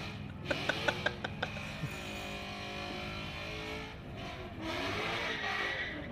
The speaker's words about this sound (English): Like, so for all the listeners, this is what a burnout sounds like, just screeching audio. Yeah, let's play a little burnout audio. Just purely mean.